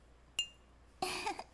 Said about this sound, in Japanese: ちょっと追加でレモンチューハイ開けます。よいしょ。グラスに注ぎます。しわしわだ。よいしょ。じゃあまずは乾杯。